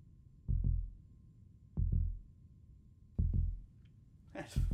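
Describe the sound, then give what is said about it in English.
A muffled heartbeat heard through a stethoscope during a check-up: four deep, slow lub-dub thumps, evenly spaced, boomy, with a brief scratchy rustle near the end. “I'm going to listen to your heartbeat.”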